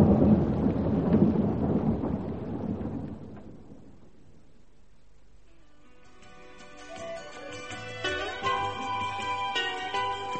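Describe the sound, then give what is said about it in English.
A deep, loud roll of thunder rumbles with a wash of storm noise and rain during a thunderstorm, slowly fading away over a few seconds before gentle music rises in its place. “Hope this storm dies down.”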